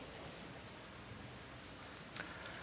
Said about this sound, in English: It warms the heart of a librarian to hear the sound of pages turning.